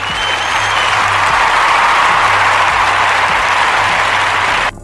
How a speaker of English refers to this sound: Make some noise. Give me a round of applause before you drop these bars.